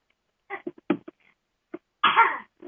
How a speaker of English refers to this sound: Oh, we have coughing babies.